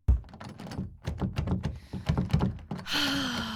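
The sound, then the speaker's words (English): Someone tries to open a door: a quick, uneven run of thunks and rattling handle clicks, ending in a sustained creaking squeal. No one speaks. “That's not a real door, honey. That's not a real door either.”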